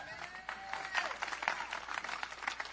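An audience applauds steadily for a few seconds, dense overlapping claps forming an even, crackling wash at moderate volume, with a faint voice or cheer briefly rising above it.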